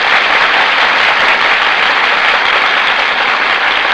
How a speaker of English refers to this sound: That applause, ladies and gentlemen, is for Annabella and Tyrone Power, who have just entered the Gulf stage and have taken their places before the Gulf microphone.